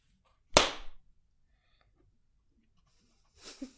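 One sharp, loud hand clap cracks out and rings off over a fraction of a second, followed by near silence and then a soft, breathy rustle toward the end.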